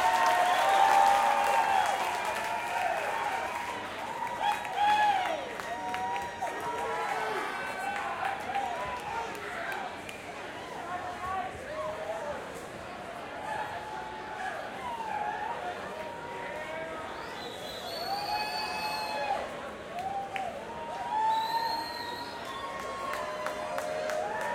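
A crowd applauds and cheers steadily for nearly half a minute for two musicians, a dense wash of clapping with shouts rising over it and a few shrill whistles near the end.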